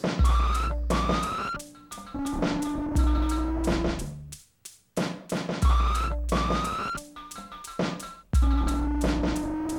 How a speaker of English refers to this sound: So this machine detects when there's liquid, and it makes these really loud screeching siren noises.